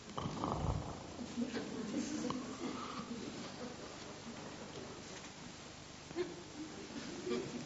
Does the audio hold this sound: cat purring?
yes